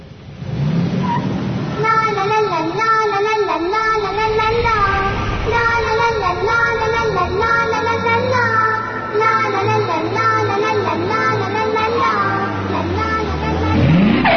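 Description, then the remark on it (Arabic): A car engine drones steadily, its pitch rising and falling as the vehicle drives, then shifts sharply near the end as the car comes to a sudden stop. “لماذا توقفت فجأة؟”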